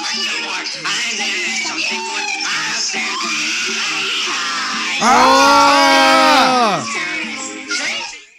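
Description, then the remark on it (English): A child screams loudly, yelling "I'm just a kid," over a busy, noisy background of voices, the shrill wavering cry peaking near the middle and trailing off, with other commotion continuing around it. “That's screaming in the background? Yeah. Yeah, dude, audibly hear a kid yelling, "I'm just a kid.”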